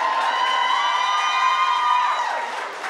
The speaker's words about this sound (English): Y'all can clap for Kennedy.